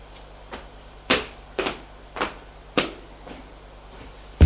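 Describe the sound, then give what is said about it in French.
A man rummages for paper, making a handful of irregular rustling, shuffling bursts with brief quiet gaps between them. No one speaks. “Il cherche du papier.”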